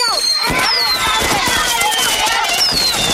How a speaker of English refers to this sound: Progressive asks, what do a slow Friday night, bored teenage boys, I'm bored, a pack of fireworks, this is gonna be awesome, and a teetering branch suspended over your car have in common?